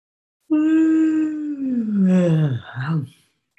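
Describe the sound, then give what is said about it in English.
A single drawn-out, voiced yawn that starts abruptly, holds a steady tone, then slides downward in pitch and trails off into a short, breathy second exhale. Fairly loud, with no talking. “Which is likely to get you some more yawns.”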